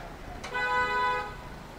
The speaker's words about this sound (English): That's a sound you don't hear very often in this city, is the sound of car honking. In Little India, all the rules get cast aside, by the way.